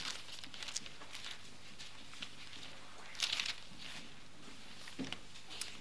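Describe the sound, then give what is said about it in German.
Thin Bible pages rustle and flip as someone pages forward to Ephesians chapter 6, with soft scattered crinkles and one brief, louder flutter midway as a page is turned. “Ein paar Seiten nach vorne blättern.”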